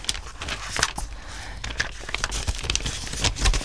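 Quick, papery flicks and crinkles repeat in an uneven rhythm as someone rapidly flips through a stack of freshly developed photo prints. No one speaks.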